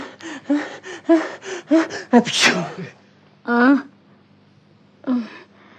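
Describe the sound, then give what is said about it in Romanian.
A single sharp, explosive sneeze bursts out right after a stretch of rapid talking, followed by a couple of short, isolated vocal sounds separated by quiet pauses. “Îmi vine să strănut.”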